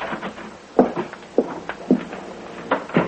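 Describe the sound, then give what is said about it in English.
An unlocked door is opened with a series of clicks, knocks and clunks spread over a few seconds, as if someone is handling the latch and stepping inside. No one speaks. “Oh, come on in, dear. The door's unlocked.”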